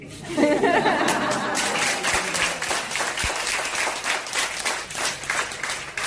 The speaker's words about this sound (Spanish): Así que en ese momento, en medio de los aplausos, con ese dinero que le entregan en un sobre, a modo de colecta para, bueno, tapar los gastos, este hombre, que es todo un tiarrón de 2 metros, no para de llorar, no puede contener la emoción